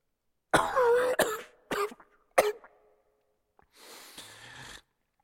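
human body sound, coughing

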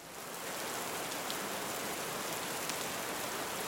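nature, rain falling

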